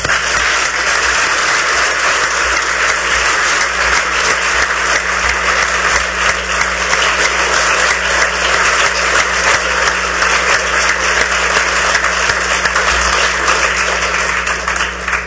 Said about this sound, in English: I'd like to join in a round of applause